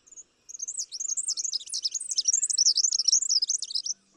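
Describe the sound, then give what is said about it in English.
Two birds, a mated pair, sing a lively duet, a rapid, continuous stream of high, warbling whistles and trills that runs unbroken for several seconds, clear with no voices. “So for the male, aggression might not accomplish the goal of ensuring paternity, but singing a spirited duet with a partner could.”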